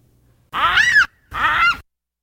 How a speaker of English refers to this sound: Well, let's hear a baboon scream.